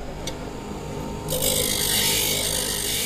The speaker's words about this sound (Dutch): Dit is de grofste slijper die erbij zit. Ja, dit is dus de eerste bewerking die we aan op te knappen beitels doen. En hiermee wordt die bijtel onder een bepaalde hoek geslepen en die gaan we dan later fine-tunen met polijsten en schuren.